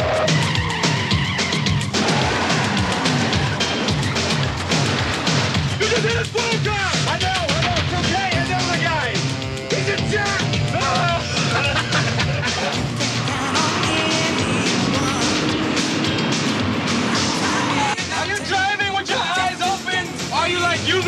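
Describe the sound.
A loud, chaotic car chase: roaring engines and repeated screeching tire skids sweep through nonstop, with crashes and voices breaking in now and then over the dense racket.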